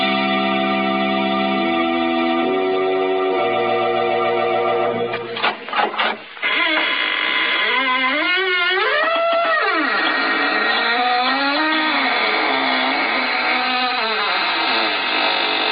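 The squeaking door of the Inner Sanctum radio program squeaks loudly in long, drawn-out creaks, its pitch swooping up and down several times, following a few seconds of steady sustained tones. No one speaks.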